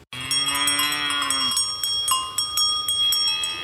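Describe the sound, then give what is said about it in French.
Cowbells clang, struck again and again in quick succession so their metallic tones overlap and keep ringing throughout, with no voices. “Oh, des cloches, ça commence de la petite cloche à mouton jusqu'à la cloche 13 livres.”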